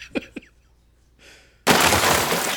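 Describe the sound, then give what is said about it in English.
A door cracking apart as someone pounds on it: two sharp knocks or cracks, a brief scraping rustle, then a sudden loud, sustained splintering crash that runs to the end. “Yeah, it sounds like your door is slowly cracking apart.”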